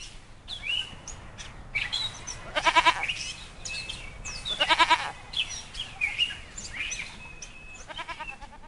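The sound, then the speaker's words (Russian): Little goats bleat twice in short, wavering cries, fairly loud, while birds chirp and tweet steadily in the background of an outdoor setting. “Ему нравилось играть с маленькими козочками, смотреть, как они пасутся, ухаживать за их жильем.”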